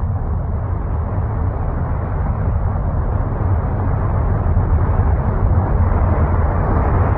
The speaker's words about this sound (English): Let's hear them blast off. It's a sound I want to hear and remember. It'll take them hours, days, to get that thing off the ground.